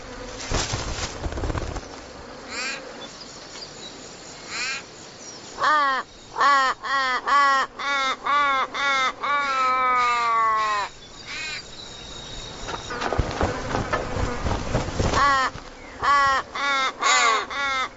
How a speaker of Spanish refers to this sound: Mientras una joven águila se harta, los cuervos protestan y el escándalo no hace más que proclamar su secreto.